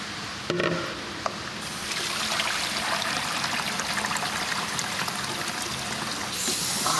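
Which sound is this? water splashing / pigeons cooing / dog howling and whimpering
water splashing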